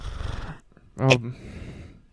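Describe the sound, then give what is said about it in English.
A woman's single short, voiced sneeze bursts out sharply after a low, breathy lead-in, then fades into quiet background hiss. “She goes back like she's about to sneeze.”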